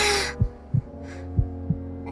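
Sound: pounding heartbeat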